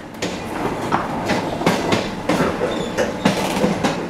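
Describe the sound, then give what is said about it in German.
A passenger train to Tucumán, Argentina, which left Retiro station, rolls steadily along the rails, its wheels clattering in a repeating clickety-clack rhythm over a constant rumbling roar, with no voices. “Der Zug nach Tucumán hat den Retiro-Bahnhof mit einer ganzen Stunde Verspätung verlassen.”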